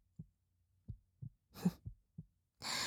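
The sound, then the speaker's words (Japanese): A quick, muffled heartbeat, faster than a normal human's, thumps low in soft double beats, with a couple of brief bursts of rustling noise breaking in over it. “ですからその分、普通の人間より鼓動が速くなっているのでしょう、きっと。”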